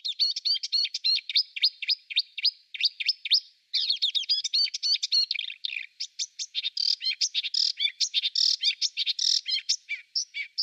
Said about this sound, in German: Also Sumpfrohrsänger, der kann auch ganz viel imitieren, ganz viel hintereinander machen. Habe ich natürlich keine Kosten und Mühen gescheut, auch mitgebracht. Wir hören uns mal im Vergleich den Sumpfrohrsänger an.